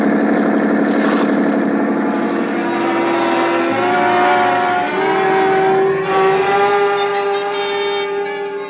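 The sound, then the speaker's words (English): A police boat engine drones steadily and loudly throughout, its pitch shifting slightly as it runs. The rumble stays constant, with no voices. “Start isn't much when a schooner with auxiliary power is matched against a police boat.”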